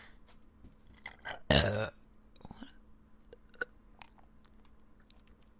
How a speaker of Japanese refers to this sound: なんかちょこちょこ出てるゲップが。